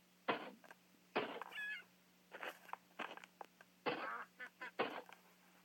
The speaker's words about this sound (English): Ducks.